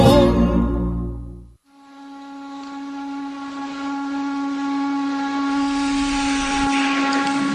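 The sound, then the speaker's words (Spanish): A loud, sustained steam whistle from a chimney blows steadily with a rich harmonic tone and hissing edges, preceded by a brief low rumbling burst; no one speaks. “La chimenea.”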